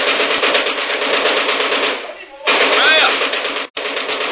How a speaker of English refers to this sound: I get machine gun. Now I show you how to fix them. This machine gun be good for them.